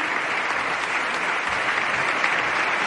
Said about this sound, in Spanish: Todos aplauden menos el grupo de Unidos Podemos, que permanece en pie, pero como ya anunciaron, críticos al mandatario argentino.